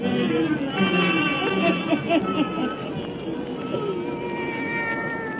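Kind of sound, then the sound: animal, black cat meowing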